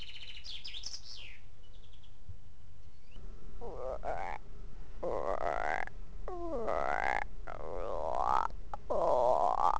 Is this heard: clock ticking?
no